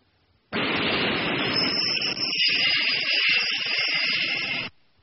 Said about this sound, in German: Hören Sie. Das ist ein Autobus.